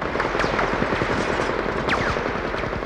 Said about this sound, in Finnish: Pitkän aikaa tutisi ruumis, kun konekiväärisuihku hakkasi sen reikiä täyteen.